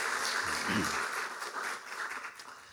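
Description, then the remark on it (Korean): An audience at a church worship service applauds in thanks after a praise performance, a steady, dense patter of many hands clapping, sustained for a few seconds, with a faint voice briefly murmuring underneath. “우리 한번 감사의 박수 한번 하시겠습니다.”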